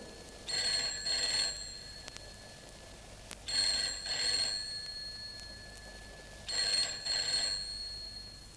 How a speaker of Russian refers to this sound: Около полуночи зазвонил телефон.